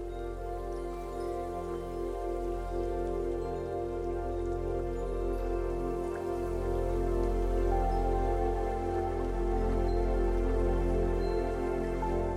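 Steady rain patters on a hard surface, a continuous wash of drops with no breaks, mixed with a soft sustained tonal drone underneath. No voices are heard.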